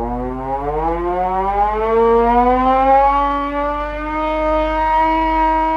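A piercing factory shift siren at Fried. Krupp in Essen, popularly called the "Krupp'sche Esel", sounding at six in the morning, wails alone: one loud sustained tone with a buzzy, harmonic-rich edge, its pitch sliding slowly upward over several seconds without a break.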